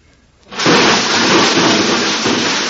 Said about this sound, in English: What was that? I didn't hear anything. I think the neighbor's dog knocked over the ash can again.